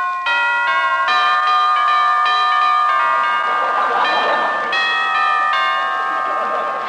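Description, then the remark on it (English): Roy Rogers' doorbell rings out a long, melodic chime tune, its bright bell tones changing pitch every second or so, loud, with no talking over it. “Well, I'll ring Roy's bell.”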